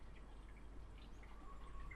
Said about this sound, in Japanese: せっかく今ほら、ホケキョウ、ホケキョウって言ったのに、私のお腹先生がギュルルルルって言ってしまった。そう、ウグイスちゃんも泣いてます。